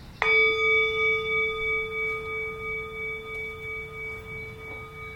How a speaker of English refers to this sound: Let's come with the sound of the bell to really hear it like a gong of awareness and to feel the way in which it leads to silence.